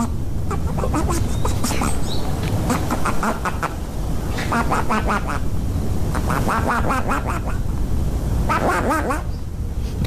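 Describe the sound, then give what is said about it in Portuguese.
Raspy, duck-like quacks made by flatulence from a person lying on their back on the ground in a garden, rear raised in the air, come in short clustered bursts, repeated several times over a steady background noise. The imitation is fairly loud. “deitado no chão de costas, rabo alçado no ar, imita um pato com o rabo.”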